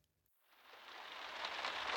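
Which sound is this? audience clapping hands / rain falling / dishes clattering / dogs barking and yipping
rain falling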